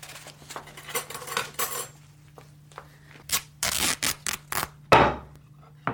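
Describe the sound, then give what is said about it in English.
Metallic handling of scissors or a kitchen knife in a kitchen: light clinks and scraping rubs, then a cluster of sharp snipping bursts and one loud clack near the end, with no voices. “Get me a pair of scissors or a kitchen knife.”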